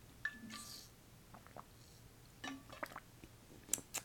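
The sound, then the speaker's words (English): Someone drinks water in quiet, wet sips and swallows, with a few soft clicks and gulps spaced irregularly over a few seconds; no one speaks. “Like, I'm gonna be drinking some water right now, and I kind of just want to like record it and see how this goes.”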